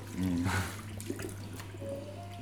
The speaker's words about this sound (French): c'est rare de voir l'eau couler de cette façon-là aussi. Ton jet, il est spécial. Ouais. Pour pas que ça t'ait des éclaboussures sur le visage, comme certains salons de coiffure, tu vois. Où tu fais pas un shampoing, mais tu prends une douche.